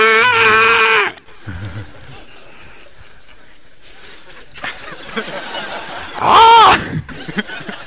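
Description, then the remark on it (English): A voice imitates an elephant's angry scream, presented as an elephant's cry in Ukrainian: a loud, shrill, harmonic cry at the start, quieter murmurs and breathy noises, then a second piercing wail that rises and falls near the end. “Это крик слона по-украински.”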